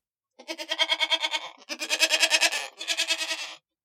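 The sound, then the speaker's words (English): Goats bleat loudly in three long, wavering calls, each a rapid trembling stutter with brief pauses between, and no voices alongside. “Those are goats. I love goats, and I think they make the funniest sound of all the animals.”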